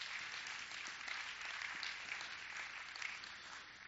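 An audience claps steadily for about four seconds, a dense, even wash of many hands with no voices over it, applauding a point about spending time with one's children.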